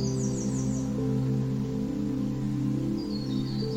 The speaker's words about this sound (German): Und vielleicht hörst du auch die Vögel zwitschern.